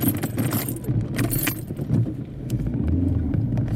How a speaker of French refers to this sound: J'ai calé, c'est un truc qui est totalement normal. Un truc que ma voiture sait faire parfaitement. Parce que justement, je peux rouler en seconde comme ça, mais repartir en seconde. Ça, elle veut pas du tout.